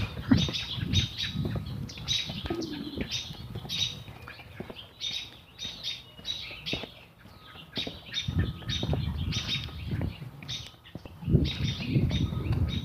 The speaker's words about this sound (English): Lots of sparrows. I can hear a robin off in the distance.